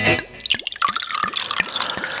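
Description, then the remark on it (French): Wine glugs out of a freshly uncorked bottle in a steady rhythm of about six hollow gulps, clear over a splashy trickle into the glass, with no voices. “Eh ben oui, on en débouche une, et puis surtout, ce qui est intéressant lorsqu'on l'a débouché, cette bouteille, c'est ce bruit-là.”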